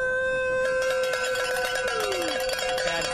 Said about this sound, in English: So it's all about the cowbell. It's all about the sounds of bike racing.